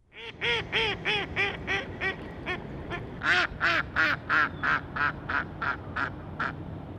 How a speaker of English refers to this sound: This week, the sound of mallard ducks on a December day in Blacksburg, Virginia, is the call to explore the annual Christmas Bird Count, organized by the National Audubon Society.